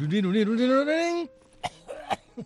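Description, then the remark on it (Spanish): A voice imitates an audience member coughing during a pause in a live piano performance: a drawn-out, rising vocal sound followed by a few short, sharp cough bursts, with brief pauses between them. “Suena siempre una tos por allá atrás que no tiene que ver.”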